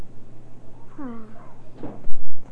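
A door swings shut as someone walks up the steps: a brief descending creak, a sharp click, then a low, muffled thud at the end, with faint voices in the background.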